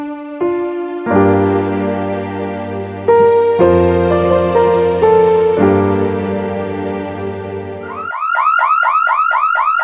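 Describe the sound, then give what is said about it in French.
A loud electronic alarm blares with no speech, in a spoof advert for Gandalf alarms that warn of an approaching enemy, first cycling through steady sustained tones that shift pitch in blocks, then switching to a rapid repeating warble of rising chirps. “Pas de soucis, les alarmes Gandalf vous préviennent dès l'approche d'un ennemi.”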